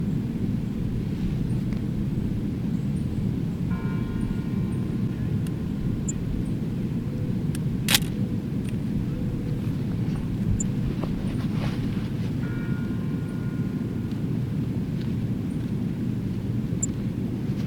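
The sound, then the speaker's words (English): A light aircraft engine drones steadily during a carburetor check, a dense low roar that holds constant, with faint higher whining tones rising briefly twice and a single sharp click partway through. No one speaks. “That was that noise. That was the carburetor check.”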